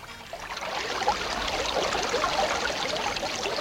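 A creek the speakers are standing next to flows steadily, its uncontaminated, drinkable water babbling and trickling in a continuous wash of sound with no voices.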